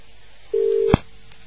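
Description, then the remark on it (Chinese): A steady, mid-pitched telephone line tone from a faulty phone call to a radio call-in program sounds alone for under half a second, then cuts off with a sharp click, leaving a faint hiss. “哇，他这个电话真有问题了。”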